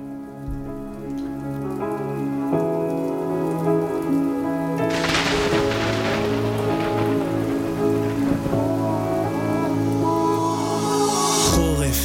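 Steady rain patters against a window glass, a dense hiss of drops swelling in after a few seconds over sustained musical tones, with no voices.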